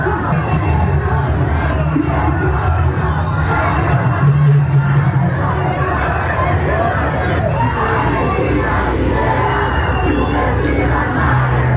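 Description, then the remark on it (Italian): A large protest crowd in front of the city hall chants slogans in unison, including "Palestina libera" and "vergogna": a dense, loud roar of many voices with rhythmic shouted phrases rising over steady babble, sustained without pause throughout. “La forte contestazione di fronte alla sede del comune ha portato a momenti di tensione e a manganellate della polizia.”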